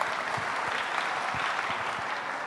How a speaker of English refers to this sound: That was half of a clap.